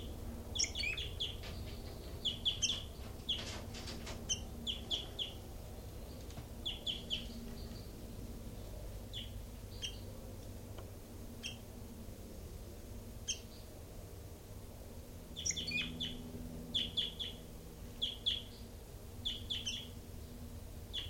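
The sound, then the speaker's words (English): Caged birds in cells, including bird number 06, call in short, high chirps, coming in clustered bursts with brief pauses, over a steady low hum and faint clatter. No one speaks. “Recording is bird 06.”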